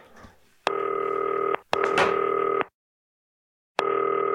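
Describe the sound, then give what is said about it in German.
A telephone ringing tone of a FaceTime call to footballer Johannes Eggestein sounds in steady, buzzy bursts: a long tone, a short pause, another long tone, then silence before a third begins, with a faint click or rustle at the start. “So, klingelt.”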